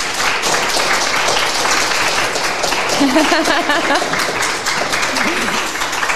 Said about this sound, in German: Ein Applaus bitte.